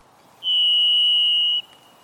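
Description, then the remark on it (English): A single long, steady whistled note from a varied thrush, holding one pitch for about a second with faint higher overtones giving it a buzzy, chord-like ring over quiet background hiss. “Listen carefully to hear the overtones that turn the single sound of a varied thrush into a delicate minor chord.”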